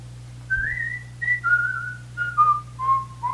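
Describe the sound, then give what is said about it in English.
A clear, melodic whistle plays a short descending tune of sustained, gliding notes, fairly loud over a faint steady hum, with no one speaking. “The lilting of my whistle clear tells old and young that I am near.”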